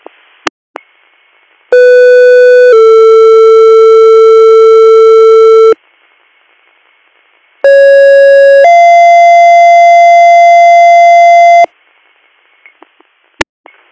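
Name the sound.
fire dispatch paging tones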